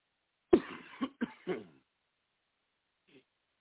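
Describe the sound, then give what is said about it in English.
A burst of four harsh, raspy coughs in quick succession, the first loudest, followed after a pause by a faint, short throat sound. “Oh, man, those coughs hurt.”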